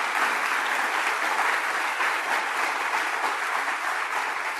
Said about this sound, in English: So I just want to give a round of applause for the team of Open Arms Pregnancy. That's so important.